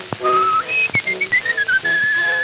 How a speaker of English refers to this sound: who would whistle in this way